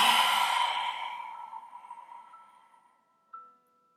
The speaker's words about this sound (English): Inhale through the nose. Exhale, lion's breath. Inhale through the nose. Exhale, lion's breath. Let your jaw fully open on those exhales.